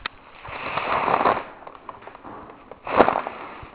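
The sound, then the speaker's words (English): A paper bag rustles and crinkles as it is blown up, with a long airy puff of breath followed later by a shorter, sharper crackling burst. No one speaks. “Okay, I got this paper bag last night on the way home.”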